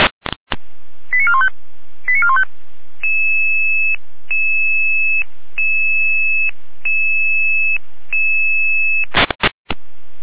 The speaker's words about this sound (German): Sirenenalarm.